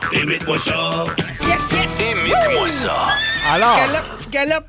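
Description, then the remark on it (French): A person imitates a horse at a gentle gallop, starting with quick rhythmic clicking like galloping hooves, then giving two wavering, rising-and-falling whinnies. It is fairly loud, with a bit of voiced noise around it. “Petit galop. Ça, c'est un cheval? Oui.”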